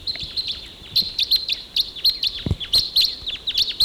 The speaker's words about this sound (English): Okay, those crossbills, there were about four of them, took off and they went up higher on the ridge.